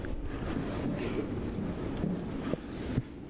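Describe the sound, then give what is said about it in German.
Steady outdoor wind of about 11 to 24 km/h buffets the microphone in 5 °C overcast, drizzly weather, a constant low rumble and rushing noise, broken by two soft knocks near the end; no one speaks. “Humidität 98%, Druck 10,18, beim Gerät gemessen 10,14 und der Wind war da irgendwas zwischen 11 und 24 km/h.”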